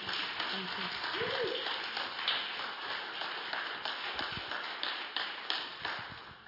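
A crowd claps and applauds steadily for several seconds, giving God a clap, a dense, continuous patter of many hands, with faint voices underneath.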